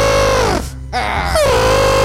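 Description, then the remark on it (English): A voice imitates an elephant call: a loud, buzzy, brassy trumpeting tone that dips and breaks briefly in the middle, then resumes with a rising wavering pitch and holds steady. “That's a good sound, though. It wasn't full elephant, so it was like...”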